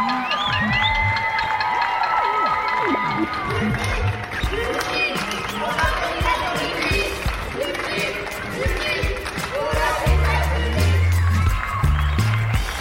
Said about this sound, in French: C'est le rendez-vous qu'on s'est donné toutes et tous depuis une semaine pour applaudir les soignantes et les soignants français. C'est de la gratitude qu'on entend aux fenêtres